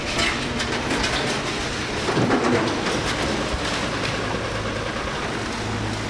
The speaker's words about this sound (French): Alors un mois après la catastrophe, des centaines de personnes s'activent chaque jour sur place. Ce que vous entendez derrière nous, ce sont des bénévoles armés de camions et de pelleteuses qui déblaient les décombres des rues d'Arweiler.